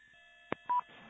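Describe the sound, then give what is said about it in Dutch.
A sharp click followed by a short, loud electronic tone burst, the beeps of the EchoLink app's transmit button, used at camping Westerwold in Assel near Hoogsoeren, over a faint steady hum and hiss, with no talking. “Ja, dat is vast op het transmitknopje natuurlijk met Echo Link applicatie.”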